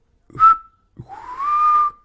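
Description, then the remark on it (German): Two clear whistled notes from a person: a short, steady one, then a longer tone that rises slightly and holds, fairly loud, like an imitated bird call, with no speech. “Ja, und ich habe gepfiffen.”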